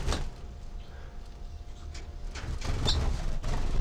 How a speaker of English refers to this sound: So recording, I'm right next to all the birds now. And they're flying around.